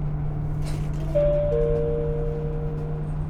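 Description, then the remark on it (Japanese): A bus stop-request chime rings once as a two-note ding-dong, signalling that the bus will stop next, the tones lingering and fading slowly over a steady low engine hum inside the bus. “次止まります。”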